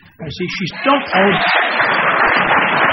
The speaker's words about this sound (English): It's not worth the applause.